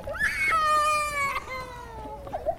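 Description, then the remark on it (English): A child cries in one long, loud, high-pitched wail that slides downward in a couple of steps, ending in a brief choked sob. No one speaks. “How do you deal with it when your kids cry in public?”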